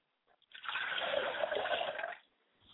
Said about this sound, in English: Ladies and gentlemen, as I pour libations for Akamare, a manifestation of the three Godhead, Ilede, Oludulamare, and Olurum, and I say Ashe.